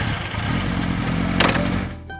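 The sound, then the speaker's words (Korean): A delivery motorcycle engine runs with a steady, throbbing rumble, swelling slightly in the middle before easing off, as it is ridden on a coffee and dessert delivery. No one speaks. “그래서 오토바이를 잠시 세우고 배달통을 열어봤는데요.”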